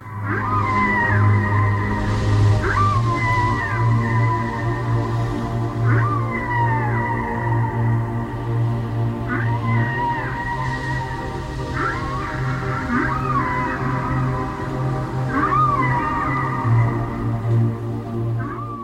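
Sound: whale song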